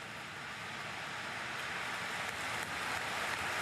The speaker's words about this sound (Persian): بعد از سخنرانی صدای کف زدن چند صد هزار نفر از پشت دره کلیسا مثل یه موج وارد کلیسا شد.